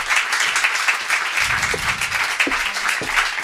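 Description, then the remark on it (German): An audience applauds steadily to welcome a guest to the couch on stage, a dense wash of many hands clapping at once with no pauses, fairly loud, with faint murmurs mixed in beneath it. “einen kleinen, großen Applaus”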